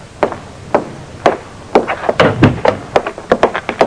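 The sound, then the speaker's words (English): Hard-soled footsteps of a tall, middle-aged man walking into an office tap across a floor, starting slow and evenly spaced, then quickening into a denser run of crisp steps that grow louder. No one speaks. “A tall, heavily tanned, middle-aged man walked into Cooley's office.”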